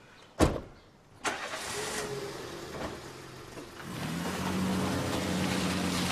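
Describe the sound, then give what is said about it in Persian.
Two sharp thumps early on, then a car engine rumbles into a steady idle hum that grows a bit fuller toward the end. No one speaks. “من یه دونه کلید در حیاتو دارم، برمیگردم ماشین بابامو یه سری وسایل برمیدارم.”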